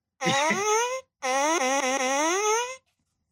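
A fart sound in two long, buzzy blasts, the first shorter and the second longer with a wavering, slightly falling pitch, fairly loud and alone with no talking.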